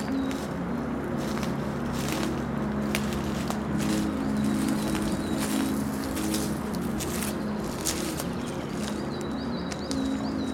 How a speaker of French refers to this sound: Alerte du merle. C'est le merle qu'on entend là ?